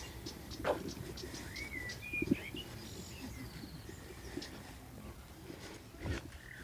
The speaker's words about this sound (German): Sollen wir mal ganz kurz einfach nur den Vögeln zuhören? Ja, machen wir.